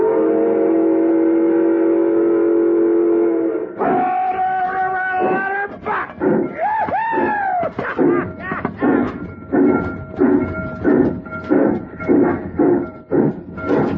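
A steam locomotive sounds a long, steady whistle, then settles into loud rhythmic chuffing as it runs along the rails, with a few whistle tones wavering over the chugging beat.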